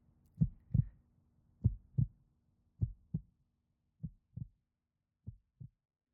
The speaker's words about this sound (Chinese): 手按在你的胸口，是心脏跳动的触感。我都快要记不得这种感觉了。这样摸你的心跳，紧张吗？心跳在加快。